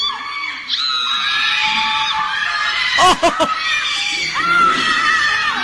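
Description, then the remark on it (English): A chorus of high-pitched children's screams at a six-year-old's birthday party, frightened by a performer in a Bigfoot costume with a blue skirt and a bow. The screams are sustained and overlapping, with frightened wails rising and falling throughout and a brief burst of sharper shrieks midway. “Those don't sound like happy screams.”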